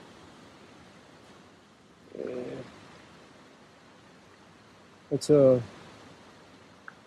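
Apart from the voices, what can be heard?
creek water flowing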